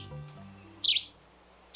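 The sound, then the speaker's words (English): A yellow-green vireo, a migratory songbird, sings two short, bright chirping phrases separated by a pause on its summer breeding grounds in Belize, the second cut off at the end, heard clearly over faint low background hum with no talking. “A yellow-green vireo sings on its summer breeding grounds in Belize.”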